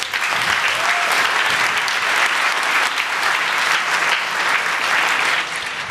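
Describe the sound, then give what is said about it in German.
Steady, dense applause from an audience welcoming a group about to present their software project Config-Foo, many hands clapping continuously at an even loudness for several seconds, easing slightly at the very end, with no voices heard. “Einen ganz herzlichen Applaus.”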